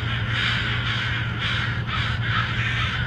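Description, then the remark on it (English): Several crows caw loudly and repeatedly in overlapping harsh calls, a dense, continuous chorus with a low steady hum underneath, taken from a video on Dr. Swift's YouTube channel. “So I grabbed that and a few other crow noises for this episode from Dr.”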